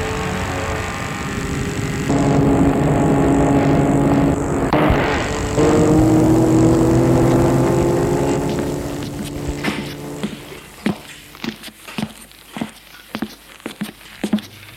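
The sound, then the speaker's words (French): A car engine hums steadily, rising in pitch as the car arrives, then the motor cuts out and a few sharp clicks and knocks follow, like a door handle and footsteps. “revient, cette fois en voiture, et on le ramène à la clinique”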